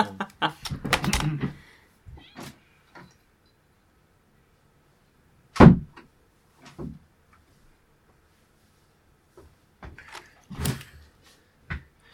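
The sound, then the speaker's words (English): A room door is opened to let a cat out, then closed: an opening burst of rattling and clatter, then a solid thump as it shuts, followed by scattered light clicks and knocks with quiet gaps between. “some approximation of closing my door.”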